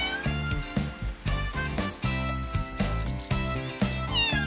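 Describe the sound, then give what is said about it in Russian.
A kitten meows repeatedly over a bouncy musical backing with a steady bass beat, the small cries fairly loud, rising and falling against the music. “Промок котенок, дрожит, ай-яй-яй.”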